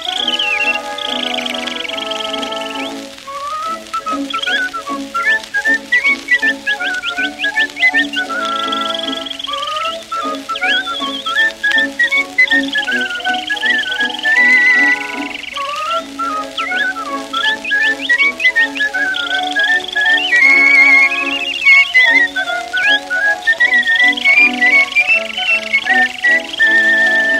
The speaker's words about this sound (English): As he made these remarks in his sweet melody. He warbled with pride from his nest in the brush and said that the spring was just made for the thrush.